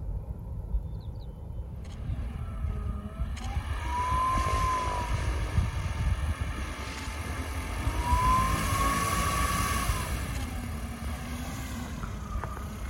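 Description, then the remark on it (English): The quiet electric motor of an electric plane flying around Christchurch Airport hums overhead, its thin whine rising and falling in pitch as it circles, over a steady low rumble of wind and ambience. “That's the electric one.”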